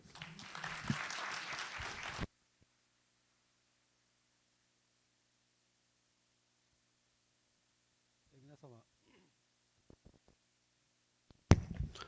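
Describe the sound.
A burst of audience applause, dense clapping for about two seconds that stops abruptly, followed by quiet with a brief spoken voice and a few scattered noises.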